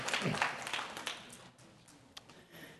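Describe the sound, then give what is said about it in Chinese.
A round of church audience applause welcoming first-time visitors: dense, crackling clapping at moderate volume that thins out after a second or so, leaving a few scattered, fading claps. “好，那我们再给这些人再鼓掌，非常欢迎，请坐，请坐。”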